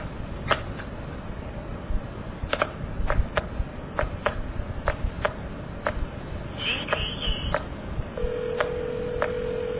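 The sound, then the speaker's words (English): Scattered sharp mechanical clicks from step-office telephone switching equipment tick through a hissy line after the operator hangs up, then a steady dial tone comes back on near the end and holds. No one speaks. “Also, with a step office, as soon as the operator hangs up on you, you will get the dial tone back.”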